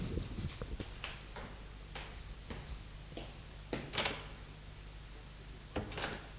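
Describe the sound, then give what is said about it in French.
A man knocks on a door in a series of sharp, irregular knocks, followed by a couple of louder clunks and rattles as a woman opens the door, all over a faint low hum with no voices. “Il frappe. Elle ouvre la porte.”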